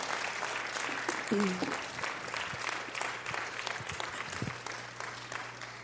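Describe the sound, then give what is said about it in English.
Steady, dense applause from a large audience standing to clap for a woman fills the whole stretch, a continuous crackle of many hands clapping at once with a faint low hum underneath and a brief vocal cheer early on. “Yeah, will y'all just stand up and clap for her?”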